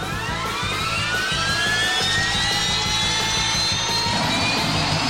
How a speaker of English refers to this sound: The giant black staff spins in it like a helicopter blade, and then strikes the monster with it.